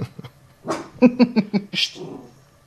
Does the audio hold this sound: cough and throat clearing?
no